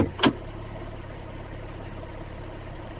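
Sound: car engine idling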